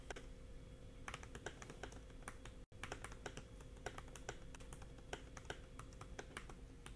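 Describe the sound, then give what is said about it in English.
Steady, rapid clicking of keys on a clicky iPad keyboard, moderately loud, with a brief pause partway through and no voices. “It sounds like you're typing on your iPad keyboard.”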